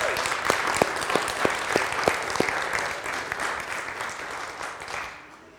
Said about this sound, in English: Let's give God a round of applause for what he's doing.